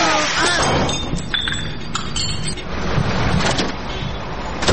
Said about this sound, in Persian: اوه، این تاکسی هست که جو پچه پاشو ایتیاد کن بچه